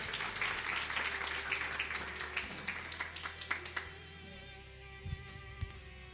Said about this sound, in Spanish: ¿Por qué no se da un aplauso y toma su lugar?